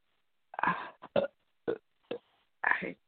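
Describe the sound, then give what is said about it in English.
A person belches five times in quick, irregular succession, the burps throaty, some long and drawn out, others short and clipped, with brief silences between them. “I can't help it. I'm belching.”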